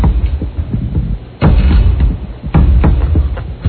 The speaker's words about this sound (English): And immediately, it was so loud that my eyes opened. Immediately, I hear the knock, and I'm awake, and followed immediately by this sound.